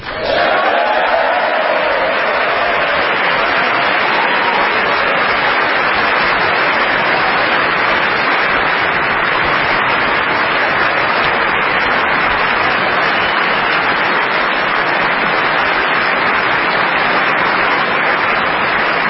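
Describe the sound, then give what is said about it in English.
Sustained, loud applause from a large audience in Congress after the president thanks the First Lady of the United States at the start of his address. It is a dense wash of clapping with some crowd noise mixed in and no voices rising above it. “I think that might have been the longest applause line of the night.”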